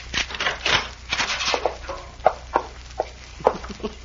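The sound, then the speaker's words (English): A key left in the keyhole on the other side of a room door is pushed out, and the door is unlocked with a spare key: metallic scraping and jiggling, then a few sharp, separate clicks at irregular intervals, with no voices. “Well, these keys are made so you can push them right out.”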